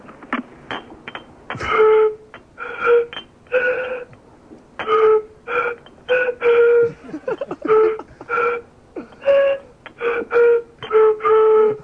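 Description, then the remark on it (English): A tune blown across empty beer bottles lined up in a row: a bouncy run of about twenty short, hollow, breathy hoots at a few different pitches, played fairly loudly with no talking. “so I thought I'd give it a go in a few empty beer bottles.”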